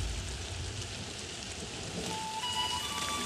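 Steady rain pours down in a dense, continuous hiss with no pauses, a broad wash of noise that stays even throughout; a faint thin tone rises briefly near the end.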